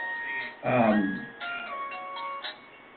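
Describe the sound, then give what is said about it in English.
A mobile phone rings with a melodic electronic tone, sustained notes stepping between pitches for the whole stretch, while a man briefly speaks over it. “I forgot to turn off my phone.”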